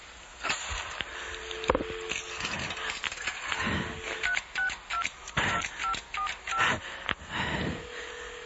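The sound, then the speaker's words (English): A rapid series of touch-tone beeps as a number is punched into a payphone keypad, about eight short tones in quick succession, preceded by handling clatter and faint background noise. “I ran to the payphone.”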